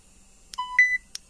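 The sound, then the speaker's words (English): A short two-note electronic beep, a lower tone stepping up to a higher one, bracketed by crisp button clicks before and after, as the rewind button on a device is pressed and held. Clear, with no voices. “So I pressed in and held in the rewind button until I heard a signifying beep, and we'll hear that again.”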